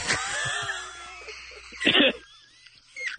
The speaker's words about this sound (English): Right. Excuse me. Had something in my throat right there. I was just coughing a little bit.